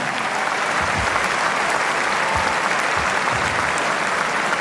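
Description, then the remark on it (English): Sustained audience applause at Roland Garros before the women's singles final, for the Divertimento orchestra of 52 musicians and 10 dancers, conducted by Zaya Ziouani: a dense steady wash of many hands clapping at an even loudness throughout, with no voices rising above it. “Merci d'applaudir une nouvelle fois Divertimento, conduit par le chef d'orchestre Zaya Ziouani.”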